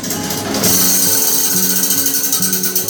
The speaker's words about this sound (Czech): Tyto zvuky vydává stroj každou hodinu v útrobách Orloje. Spousty ozubených kol se roztočí, aby oslavili, že opět uplynula hodina, což je potřeba dát celému městu a světu najevo hned několika způsoby.